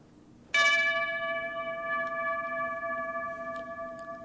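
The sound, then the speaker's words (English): A memorial bell, chimed to mark bomb blasts on trains arriving in a station, is struck once, its clear metallic tone ringing out and sustaining steadily for several seconds with a slow, gentle decay. No voices are heard. “chimes a bell at 7:07, and then 30 seconds later to mark the first 2 bomb blasts, both from trains arriving in the station.”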